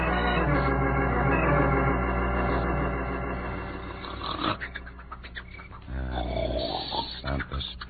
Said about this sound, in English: Mother of me, they can hear that snore a mile away.